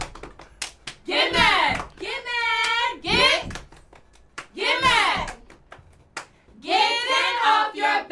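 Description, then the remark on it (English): Cheerleaders shout a chanted cheer in bursts, punctuated by sharp rhythmic hand claps between the phrases, loud. “Okay, I need a cheer. I just need a cheer.”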